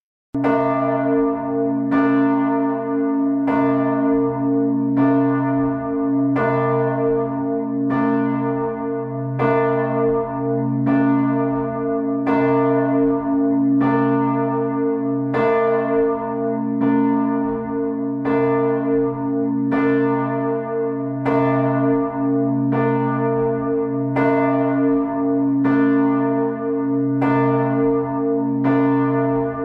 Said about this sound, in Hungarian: A, illetve B alaphang között nagyjából félúton van ennek az alaphang, ennek a harangnak 170 cm alsó átmérőjű és 2533 kg a tömege, tehát hallgassuk most a székesfehérvári Szent István bazilikának a nagy harangját.